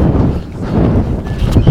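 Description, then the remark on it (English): A loud gust of wind buffets the microphone of a Sony Digital recorder in the morning, a dense low rumble that swells and roars steadily for a moment and rises again near the end, with no other sounds. The microphone faces backwards towards the speaker's body and has a new triple pop screen filter. “You hear that gust of wind?”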